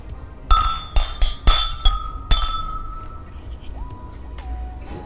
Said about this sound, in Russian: Давайте пока мы подводим наше АБ-тестирование, дегустируем нашу историю. Во-первых, чокнемся за хорошие продукты.